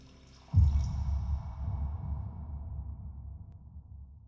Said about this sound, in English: Then, satisfied with his afternoon's work, he pours himself another drink.